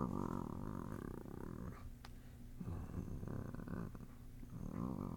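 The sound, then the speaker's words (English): A person imitates a cat's purr with a low, rumbling throat vibration that comes across more like a growl, sustained in several long stretches with brief pauses between. “How do I purr? Do I just like... It sounds like I'm growling.”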